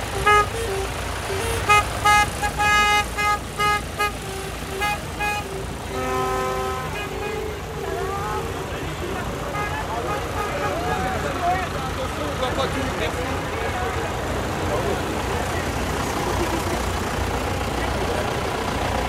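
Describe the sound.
A column of tractors starts up and rolls off: horns toot repeatedly over the first few seconds, then a steady, dense rumble of many engines continues, with voices in the background.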